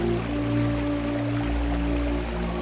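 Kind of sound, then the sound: nature, waterfall water flowing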